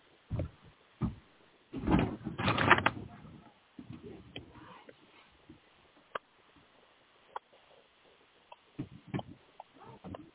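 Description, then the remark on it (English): A door is pushed shut with a couple of thuds and a brief rattling scrape, followed by quieter scattered knocks and shuffling sounds. “I gotta hang on 1 second. I gotta close my door.”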